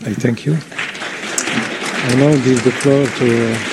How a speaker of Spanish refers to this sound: Implora a los Estados miembros que cumplan con sus obligaciones, que empiezan por imponer un embargo de armas y sanciones a Israel y así garantizar que el futuro no siga repitiéndose, concluyó entre aplausos.